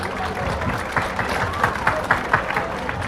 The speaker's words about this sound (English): One huge applause, please, for the volunteers.